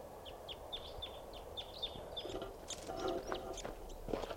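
A wild crossbill's flight calls as it comes in: a quick series of short, sharp, high chips repeated steadily, followed by a few louder, scratchier chitters over a low rumbling background.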